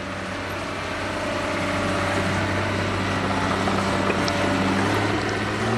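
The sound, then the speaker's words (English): Heavy engines of amphibious dump trucks drone steadily and continuously, a low rumbling hum with tonal harmonics, as the trucks dig mud out of a channel in the Alviso Slough near San Jose, at the southern edge of the bay, during a wetland restoration of former salt ponds, with no voices. “At the southern edge of the bay, in the Alviso Slough near San Jose, amphibious dump trucks working on the restoration dig out mud that keeps sliding back into a channel.”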